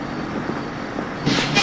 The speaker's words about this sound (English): The bus leaves without her.